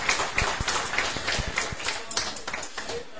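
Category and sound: crowd, applause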